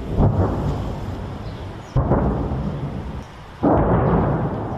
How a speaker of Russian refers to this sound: С окрестностей доносится эхо боя. Очень громко.